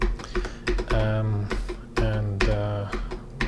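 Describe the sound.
Sharp computer clicks tap out at an irregular pace as a neurologist clicks through slides of one of his recent talks, while a voice talks in the background.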